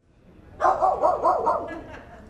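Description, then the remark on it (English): Polar, a small fluffy white Bichon Frise on site at a dog show, barks in a quick burst of short, high-pitched yaps lasting about a second before trailing off. “They were both busy setting up behind the scenes with just one canine companion on site, Polar, a fluffy white Bichon Frise.”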